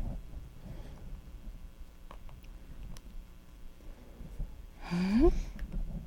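A single quick sneeze, a short sharp burst with a slight voiced squeak, standing out against a quiet background.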